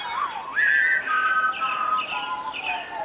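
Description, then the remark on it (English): A clear, tuneful whistled melody of sliding pitches, with a few brief higher chirps mixed in, sounding like birds singing up in the trees against a faint outdoor background. “It's the birds up in the trees.”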